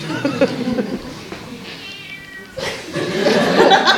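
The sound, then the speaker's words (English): A cat meows insistently several times, its drawn-out, harmonic cries rising and falling, growing louder and more strained toward the end, with faint voices murmuring underneath. “For me, you're the future, and so is that cat.”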